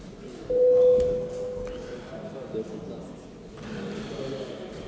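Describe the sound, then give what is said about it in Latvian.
A single steady electronic signal tone, the bell rung in parliament before a vote on a bill amendment, sounds for about a second and a half, clear and fairly loud over a low murmur and rustle. “Lūdzu zvanu.”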